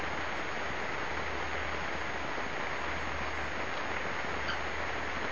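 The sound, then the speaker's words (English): Steady, dense rain hisses without pause, a broad even wash of sound with a faint low rumble beneath and no voices. “The rain is much more, has got a lot more to say than I have.”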